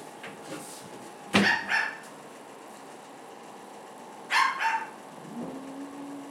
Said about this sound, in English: Doesn't help that there's a dog barking. No, outside.